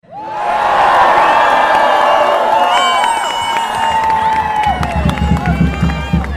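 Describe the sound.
A large crowd at the worldwide Fridays for Future demonstration on 15 March in Tübingen cheers and shouts continuously, a dense roar of many voices with high whoops rising above it, staying loud throughout, with some low rumbling and scattered claps toward the end.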